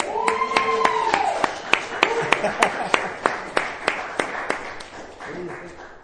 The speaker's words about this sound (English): And now, if you guys would all sit down to a rousing round of applause.